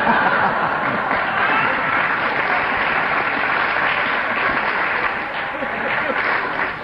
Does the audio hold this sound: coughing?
no